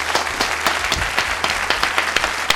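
Audience applause welcomes a guest on the show Ángulos de Cine, a dense patter of many hands clapping with sharper individual claps standing out, steady and moderately loud throughout.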